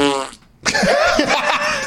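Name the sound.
fart sound effect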